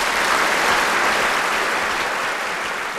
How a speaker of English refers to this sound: The curtain falls. The audience claps.